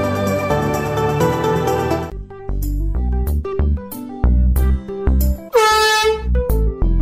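Loud, brassy air horn blasts from a handheld aerosol gas horn can, starting with a long sustained honk and then a rapid string of short, punchy bursts, with no talking.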